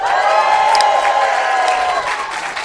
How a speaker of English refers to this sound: Hey, give us a cheer if you have heard Do Go On before.